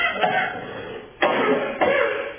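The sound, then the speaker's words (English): A person coughs three times in close succession, harsh and loud, each bursting sharply and trailing off into a raspy tail, with no talking. “Here comes that cough. Plug your ears.”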